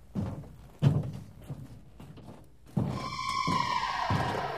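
A few dull mechanical clunks, then a sci-fi spaceship door, opened and closed by Zaffod, slides with a sustained whirring hum whose bright tones glide downward before a final soft thunk. No one speaks.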